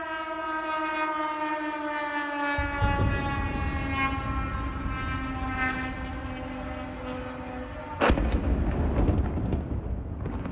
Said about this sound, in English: The sound of a Russian missile pelting towards Kyiv was caught on camera by an AP reporter.